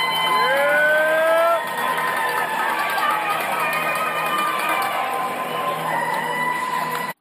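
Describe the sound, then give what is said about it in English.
A big hockey arena crowd in Aurora at an OMHA Championship final roars and cheers after the anthem in a steady, loud wash of noise, with a few rising whistle-like tones cutting through near the start and again toward the end. “The anthem was finished, the crowd was buzzing, and the players was ready to go.”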